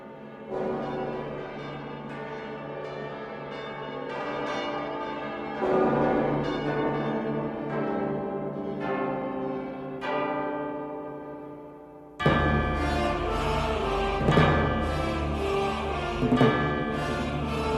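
Film opening theme music with sustained, bell-like tones and layered harmonies, building gradually before bursting into a louder, fuller passage about two-thirds of the way through. No one speaks.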